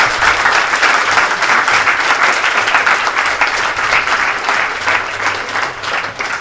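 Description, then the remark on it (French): A room full of people claps steadily for several seconds, a dense, continuous patter of many hands at a fairly loud, even level with no voices on top. “Vous pouvez l'applaudir quand même pour la”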